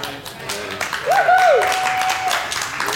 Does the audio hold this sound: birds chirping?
no